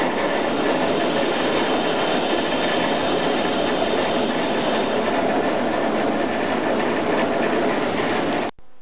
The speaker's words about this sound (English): It's a really heavy bank, and the train has pushed me now. It's gone up to 40 mile an hour, but we have a 20 mile an hour junction ahead of me, and I should start easing the train up a bit. It takes a lot of braking.